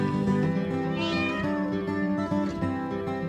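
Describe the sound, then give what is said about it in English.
A cat meows in a long, drawn-out wail that rises and wavers for several seconds, fairly steady in loudness, with no talking over it. “Kitty. Can you say kitty?”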